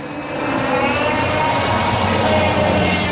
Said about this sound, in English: And wait while the car goes by there. I'm sitting out in my carport to get some nature sounds if possible.